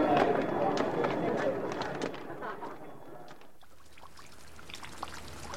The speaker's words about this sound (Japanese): あ、雨、やっぱり降ってきちゃったか。まいったな、よりによってこんな時に。